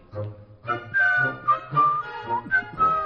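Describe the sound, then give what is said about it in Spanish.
Someone whistles a short melody, with several distinct sustained notes in a bouncy, march-like rhythm, while a voice sounds faintly underneath. “Uy, madre mía. No estoy yo para silbar.”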